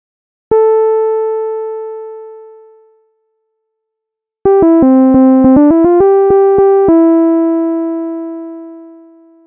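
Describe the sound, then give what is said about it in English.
A Newtone electronic doorbell chime: one long decaying tone, a pause, then a quick run of about eight short notes ending on a lower note that rings out. Bright, buzzy timbre, no voices. “Newtone doorbell from category stuff by Jason Smith.”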